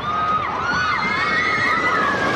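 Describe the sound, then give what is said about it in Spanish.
Roller coaster riders scream together in a loud, continuous chorus of high, wavering shrieks, with a steady rumble of the ride underneath. “Otras como un viaje en una montaña rusa.”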